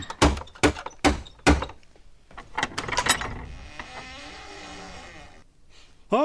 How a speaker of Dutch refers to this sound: Ek sal klop.